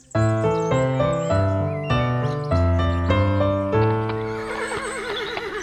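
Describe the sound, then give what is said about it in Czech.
A saddled horse gives a loud, wavering whinny toward the end, with hooves clip-clopping along steadily throughout, clear with no one speaking. “Výborně, osedlej tedy koně a vzhůru za dobrodružstvím.”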